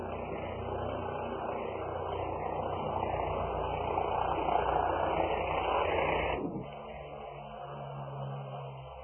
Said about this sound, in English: Perhaps with this helicopter, he's working out some purposes, too.